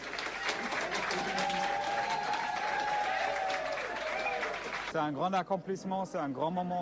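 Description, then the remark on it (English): Supporters of the same-sex marriage campaign in Switzerland burst into loud, sustained applause and cheering as the vote results are announced, with whoops rising above dense clapping for about five seconds, then it cuts to a person speaking. “Backers of the same-sex marriage campaign erupted into applause and cheers when the results were announced.”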